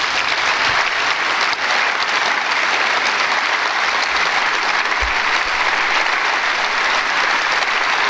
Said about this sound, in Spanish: Con una ovación cerrada extraordinaria ha sido recibido aquí en el Parlamento las palabras de las damas de blanco desde Cuba en la voz de su representante